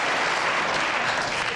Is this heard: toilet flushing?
no